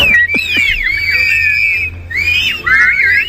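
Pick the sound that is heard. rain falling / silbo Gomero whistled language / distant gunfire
silbo Gomero whistled language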